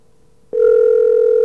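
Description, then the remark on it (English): A telephone line ringing heard through the receiver on a call to the Bell Atlantic Information Line: after a brief faint hum, a loud steady electronic tone switches on abruptly and holds unbroken to the end. No one speaks. “See, it's the same ring.”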